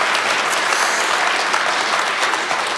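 A church audience claps together to thank a guest speaker, a dense, steady wash of many hands applauding at an even loudness throughout, with no voices standing out.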